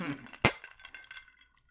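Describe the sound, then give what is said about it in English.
Glasses clink together once in a toast, a sharp knock followed by a brief bright ringing that fades out, with faint voices murmuring just before it. “Cheers to that.”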